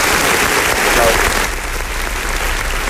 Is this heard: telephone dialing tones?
no